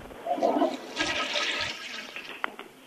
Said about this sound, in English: This toilet is flushing kind of fast.